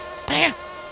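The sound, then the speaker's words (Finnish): A brief mosquito buzz whines up and fades in about a third of a second, loud against a faint steady background hum, with no voices. “Täällä on hyttysiä.”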